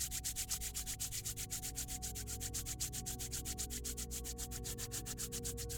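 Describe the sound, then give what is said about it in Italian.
Palms of the hands rubbed together briskly until they warm, during a seated palming relaxation exercise, a fast, even rhythm of dry swishing strokes that continues steadily throughout, with a soft, constant low drone underneath and no talking. “Sfregali fino a quando senti le mani che si riscaldano.”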